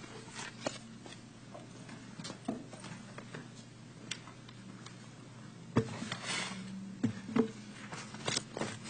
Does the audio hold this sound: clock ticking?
yes